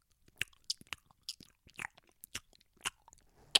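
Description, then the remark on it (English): A voice imitates loud, wet gum chewing, with a rapid, irregular series of sharp smacks and clicks, no words spoken. “people sip their coffee, smack their gum, man.”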